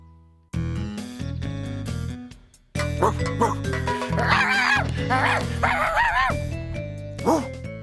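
A few bright, yelping dog barks sound over a bouncy, steady music bed, clustered in the second half with short gaps between them.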